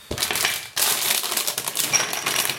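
Crinkly crackling of a bag of prepackaged, unroasted whole Californian almonds being handled, a dense run of sharp rustles with a brief pause early on, then steady crackle continuing to the end. No one speaks.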